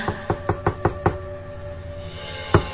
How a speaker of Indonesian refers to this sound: terdengar suara ketukan di pintu apartemenku.